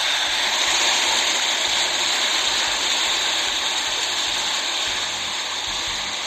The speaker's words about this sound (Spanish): Mirad qué granizo más hermosa. Mirad, mirad cómo cae.